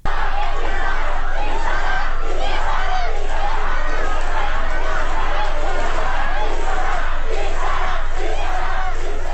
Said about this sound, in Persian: همزمان دانشجویان دانشکده حقوق علامه طباطبایی هم علی بهادری جهرومی، سخنگوی دولت، رو که برای سخنرانی به این دانشگاه رفته بود با این شعار بدرقه کردند.